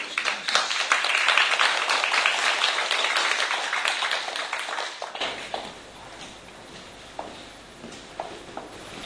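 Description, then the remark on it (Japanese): A church gathering applauds to welcome a guest pastor, with dense, crackling hand claps for about five seconds, then the clapping fades to a few scattered claps and soft shuffling noises. “じゃあ拍手でお迎えしましょうか。”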